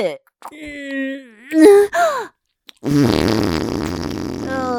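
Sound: repeated farting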